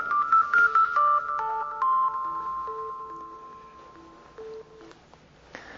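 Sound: mobile phone ringtone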